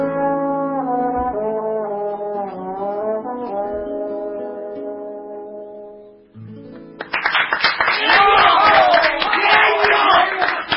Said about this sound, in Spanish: Gracias a toda la gente que se ha venido aquí. Mucha gente de la emisora a aplaudir y a decirle genio.